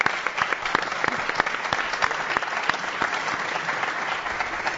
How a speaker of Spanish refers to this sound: Vamos a dar un aplauso a los dos intérpretes.